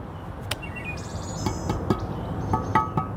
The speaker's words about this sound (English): Birds chirping.